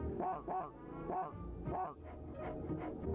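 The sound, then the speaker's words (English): A robot dog named Airbud barks in a quick run of about seven sharp, even yaps over a few seconds, fairly loud, with no talking. “this is my robot dog, Airbud.”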